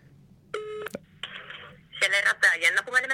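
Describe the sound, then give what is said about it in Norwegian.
A short telephone tone and a click, then a brief buzzing ring on the line as a call from Norway goes through to a Shell petrol station in Rovaniemi, Finland, before someone answers and starts talking, all sounding thin as if through a phone. “Vi ringer til Shell i Rovaniemi”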